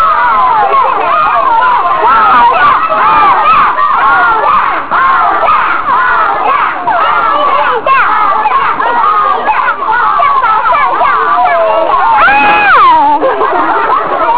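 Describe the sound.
A crowd of children roar and shout together in a loud, continuous din, voices imitating a lion's roar, with one higher drawn-out yell rising above the rest near the end.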